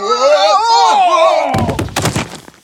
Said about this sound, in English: When they were very close, he waved his hands, and Patrick tripped them with the sword. With a loud crash, they fell off the stage.